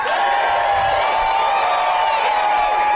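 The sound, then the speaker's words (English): Audience applause and cheering for a band at a live show: a steady, dense roar of clapping that holds at an even loudness throughout, with sustained whoops and raised voices mixed in. “Give it up again for ….”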